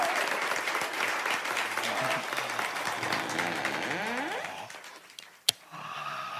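Live studio audience applause for the show Romance is Dead, a dense and steady wash of clapping mixed with a few cheers, dies away after about five seconds. A single sharp click follows in the quieter stretch.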